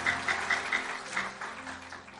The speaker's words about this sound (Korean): 다시 한번 박수로 격려해 주시겠습니다.